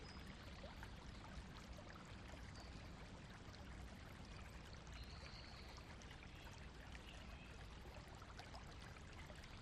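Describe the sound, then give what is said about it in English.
A small stream in a garden murmurs and trickles steadily as it feeds a pond, a continuous watery babble with no pauses and no voices. “the little stream murmurs to itself as it feeds your pond, before running out of the garden under the road to find its way down to the sea.”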